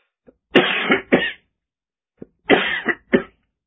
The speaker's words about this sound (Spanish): Estaba lloviznando. Me mojé un poco, evidentemente me hizo mal. Estoy con bastante tos y tengo rinitis.